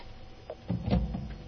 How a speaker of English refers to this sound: And I'm dialing through to his, what may be his cell phone, but may actually be his office phone.